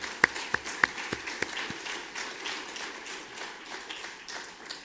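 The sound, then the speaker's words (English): A Free Presbyterian audience breaks into applause for the young people who took part in the evening meeting, opening with a few sharp, distinct claps before settling into a steady, dense patter of many hands clapping together at moderate loudness. “Let's give them a good Free Presbyterian round of applause.”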